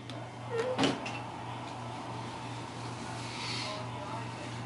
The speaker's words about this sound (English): Puts his dishes in the dishwasher.